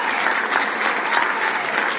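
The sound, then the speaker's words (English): A crowd applauds the moms shortly before Mother's Day, many hands clapping in a dense, continuous wash of sound at an even, fairly loud level, with no voices rising above it. “And I wish that I could clap for myself this morning, but I can't, because that story is not true.”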